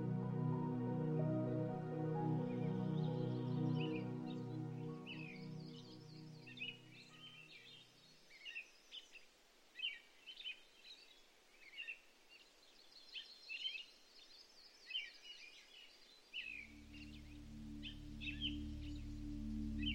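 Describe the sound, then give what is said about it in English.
Birds chirp in short, scattered bursts in a park across the street on a clear, cool spring morning in a small Alaskan town, layered over a soft, steady low hum that fades out midway and returns near the end. No one speaks. “The golden sun warms your face as birds chirp in a park across the street.”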